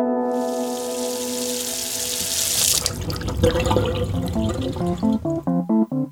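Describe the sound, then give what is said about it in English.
A tap runs steadily into a sink with a broad rushing hiss, then the flow breaks into splashing and gurgling as the basin fills, fairly loud, with no voices. “For many Americans, turning on the tap and being able to brush your teeth, take a shower, or even boil an egg with the water that comes out of it is pretty normal.”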